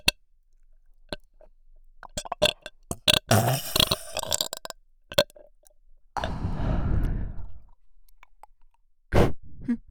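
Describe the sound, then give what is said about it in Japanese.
A girl's long, loud, deep burp right at the listener's ear, very close to the microphone, preceded by wet mouth clicks and smacking sounds, with a short gulping burst near the end. “耳元でドッキリゲップされるの聞こ聞こほーら女の子失格の特大ゲップで殺してあげる。”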